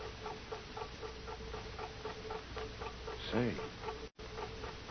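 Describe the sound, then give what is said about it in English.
A big clock ticks steadily and evenly, muffled as it comes from behind a wall in the forward hold of a boat, with a brief voice-like sound rising over the ticking near the end. “That big clock, Tuan, like I tell you.”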